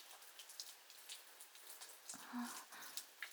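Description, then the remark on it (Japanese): Steady rain falls and patters on a surface, a dense hiss of drops with a brief low tone partway through; no one speaks. “そう、遊びに行く途中で雨に降られたなんて運がなかったね。”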